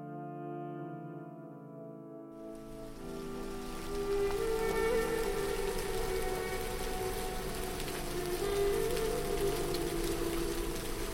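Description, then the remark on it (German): A low, steady droning tone plays alone at first, then a dense hiss of rain falling on the ground at Ein Gedi by the Dead Sea, in winter, the rainy season, sweeps in and builds to a constant downpour with the hum still underneath. “Regen. Regen im Engedi, Regen am Toten Meer.”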